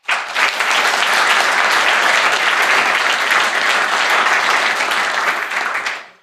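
An audience applauds steadily for about six seconds, a dense, even wash of clapping that holds loud throughout before quickly tapering off at the end, welcoming a presenter, the main developer of the Spinal HDL hardware description language, to a talk.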